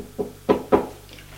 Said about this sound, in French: La femme frappe à une porte.